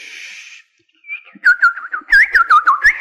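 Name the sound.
small birds singing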